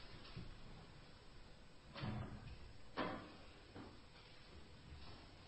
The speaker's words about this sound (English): Could someone open the door and keep it open at this point?